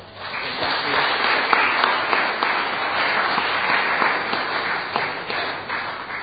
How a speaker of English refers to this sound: That was a fantastic take on the Nativity, and I would like to give the children and the helpers another round of applause.